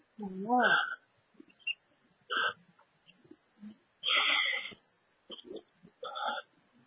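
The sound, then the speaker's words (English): A grackle gives a series of harsh, squeaky, metallic calls in irregular bursts, with short pauses between them and one longer rasping call in the middle. “Crackle trying to be the blackbird. Crackle chased away everybody else.”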